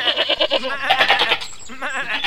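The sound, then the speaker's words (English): Several white goats bleat in quick, wavering bursts, overlapping calls with a nasal, trembling tone, fairly loud, with no talking. “Look, goats.”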